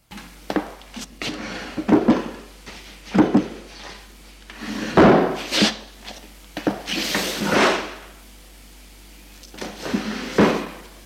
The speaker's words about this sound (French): Il est dans l'appartement, a éclairé la pièce et touche dans les tiroirs des meubles sans rien prendre.